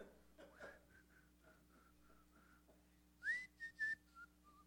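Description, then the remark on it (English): Someone whistles a short tune, first a run of soft, steady notes, then a few louder, brighter ones near the end, with faint low hum underneath and no talking. “So …'s there, and after a while, and I can imagine … whistling.”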